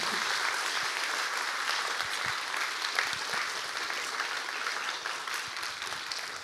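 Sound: audience applauding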